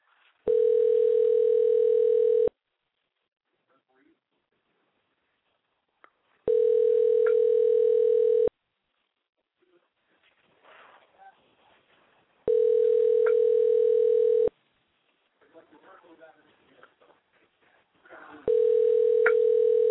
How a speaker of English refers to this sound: number's dialing, but nobody's answering. Uh-oh. Well, that's not good.